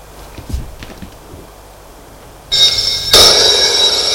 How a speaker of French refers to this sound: La sonnerie du téléphone retentit.